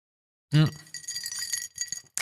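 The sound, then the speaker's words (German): Ice cubes clink and rattle in a drinking glass of apple juice spritzer, starting with a sharp knock and then a busy jingle of bright taps that settles into a few final clinks. “Es klingt so verlockend, aber es ist tatsächlich nur eine Apfelsaftschorle mit Eisstückchen.”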